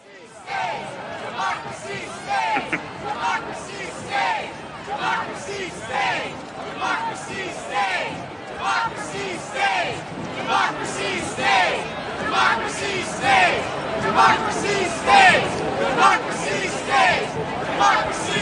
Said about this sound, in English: Bunch of people carrying a banner says remove them all and yelling democracy stays. Oh, that was the chant.